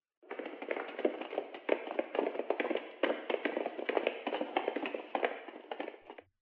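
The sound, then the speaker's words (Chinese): Hurried, disorderly footsteps of many migrant workers heard over a telephone as 13,000 workers walk back to a water-conservancy construction site: a dense, irregular patter of overlapping steps that keeps up steadily for several seconds at a moderate level, with no one speaking. “电话里果然传来了一阵急促而杂乱的脚步声。”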